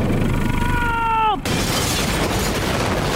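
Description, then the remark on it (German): A sharp, falling whine cuts off into a sudden loud explosive bang from an engine exhaust, followed by a sustained rough, crackling roar. “Es kracht und knallt aus allen Auspuffrohren.”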